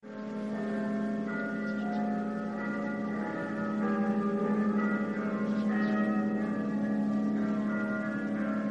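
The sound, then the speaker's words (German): Church bells ringing in all the valleys on Ascension Day sound together in a dense, steady peal, their overlapping tones humming and shimmering without pause, growing slightly fuller partway through. No voices are heard. “Es ist Christi Himmelfahrt, in allen Tälern läuten die Glocken.”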